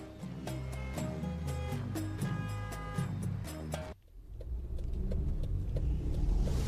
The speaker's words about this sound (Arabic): هي خلاص دقينا الموتر سلف وإن شاء الله صوب راس الخيمة.